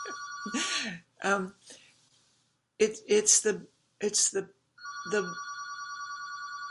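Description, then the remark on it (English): A telephone rings with a steady electronic trill in a bedroom, starting, cutting out, then resuming near the end, while a person speaks over and between the rings. “Sorry, I don't have the ability to turn off the phone here.”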